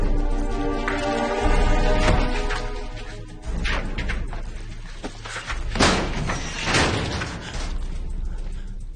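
A guard pushes open a heavy metal gate door, with a loud, tonal grinding creak, followed by a dull thud and two sharp metallic bangs a few seconds later, with no voices.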